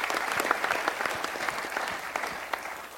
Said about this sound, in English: Stand up. Let's give her a round of applause too.